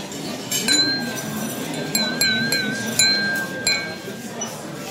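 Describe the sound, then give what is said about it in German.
A small schnapps glass clinks several times as hazelnut schnapps from the Ratskeller in Munich is poured and tasted, each bright chime ringing briefly, with a faint hiss like liquid being poured and soft background noise between the taps. “Also, Beweisstück, dass es übrigens hier auch wirklich um echten Schnaps handelt.”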